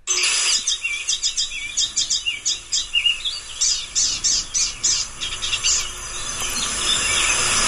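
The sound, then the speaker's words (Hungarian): A bird sings a long series of high, squeaky cheep-cheep notes in quick, steady succession, clear, with a constant high insect-like hiss in the background. “Ez a cíp-cíp-cíp, ez a ilyen furcsa csipogás valami, ez nagyon jellegzetes az énekében.”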